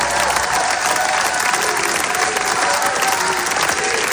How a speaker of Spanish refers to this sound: Estos son los aplausos porque se estrenaba La voz de Hain, que cuenta la historia de una niña palestina asesinada por Israel.